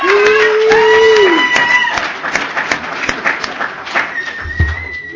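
An audience gives a speaker another round of applause, steady and loud. Dense clapping tapers a little toward the end, with a sustained whoop and a high whistle ringing out over it.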